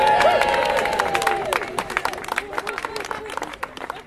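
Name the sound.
crowd applause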